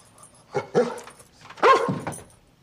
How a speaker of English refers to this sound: The fluffy dog pants.